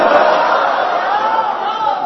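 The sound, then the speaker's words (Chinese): A loud, dense theatre audience roars and shouts steadily for about two seconds, many voices blending into one continuous wash of enthusiastic cheering with no single voice standing out. “你看看你的观众多热情。”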